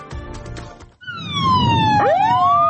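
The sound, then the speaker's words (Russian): An ambulance siren wails loudly, its pitch sliding down and then sweeping back up, following a second of rumbling traffic noise with no voices. “Ці реанімаційні автомобілі зазвичай їздять без цього звичного звуку сирени і навіть із вимкненими фарами.”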